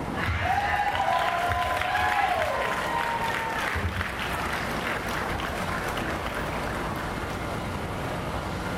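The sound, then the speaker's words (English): An audience applauds steadily for a poet, a dense wash of clapping that holds at an even loudness for about nine seconds, with a sustained high whoop ringing out over it in the first few seconds. “Can we please give another round of applause for Mother?”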